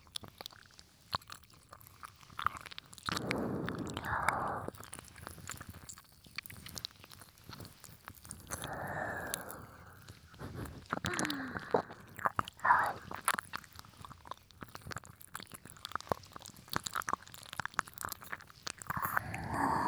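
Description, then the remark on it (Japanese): Intimate rustling and rubbing of an ear massage on a binaural microphone, swelling in soft, scratchy bursts with brief quieter gaps, and no voices. “耳がざわざわってなって気持ちいいよね。”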